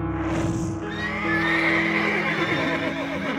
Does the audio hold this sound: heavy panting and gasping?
no